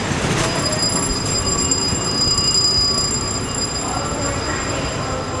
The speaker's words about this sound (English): She met our producer early in the morning at the terminal of the Long Island Railroad. That's the commuter train that runs east of New York City.